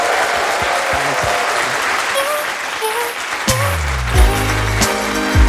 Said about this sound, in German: Vielen Dank, dass ihr heute da wart und beendet diese Folge doch mit einem großen, großen Applaus für meinen heutigen Gast, für Oliver Kalkofe.